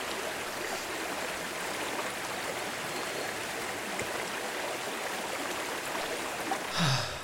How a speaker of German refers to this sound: Das ist nicht Biesler, das ist ein frischer, kühler Bach.